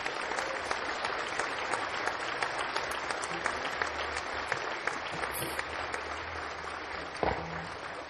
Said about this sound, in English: So if we could have a round of applause